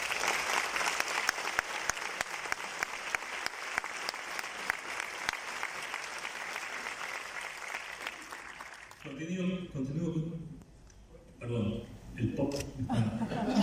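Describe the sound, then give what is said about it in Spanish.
An audience applauds steadily for about nine seconds, a dense, even patter of many hands clapping, called for at a formal address to honour men and women present who drove a state policy, before it stops and a single voice begins speaking. “Así que me gustaría pedirles un fuerte aplauso para todos ellos.”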